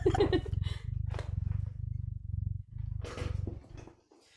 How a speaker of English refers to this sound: Yes, and while I pick, Lily's gonna provide the ASMR with her purring. She has to purr right now. She really came up to the mic. Wow.